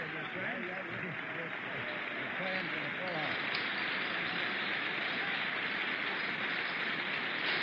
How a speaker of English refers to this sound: As the president walks towards the podium, Democrats and Republicans alike stand and applaud. Democrats were on the president's left as he walked down the aisle.